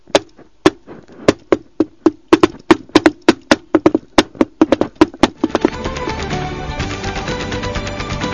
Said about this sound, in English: Oh, be quiet and knock on the door.